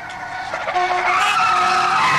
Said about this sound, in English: Did you hear that? It's the comforting sound of my safety skid brakes with patent-pending safety squeal technology. During dangerous panic maneuvers, safety squeal warns other motorists and innocent bystanders to brace for impact.